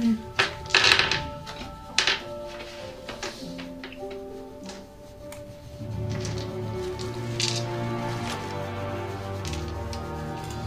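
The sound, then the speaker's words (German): Dice rattle and clatter across a table in a few quick, close bursts, then settle as a soft, steady musical backdrop fades in and carries on alone. “Durch Svens gewürfelt, dachte ich jetzt zwischendurch, Basti hat gewürfelt.”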